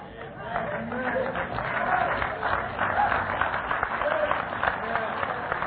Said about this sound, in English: You know, you're a remarkable crowd. I don't usually get clapped at that point.